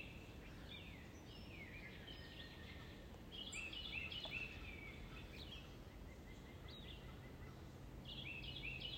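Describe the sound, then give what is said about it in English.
Several birds chirp and warble in short bursts against a steady outdoor hiss, their calls fairly quiet, coming in clusters every few seconds with no one speaking. “I'd like to sit here for a minute with my birds.”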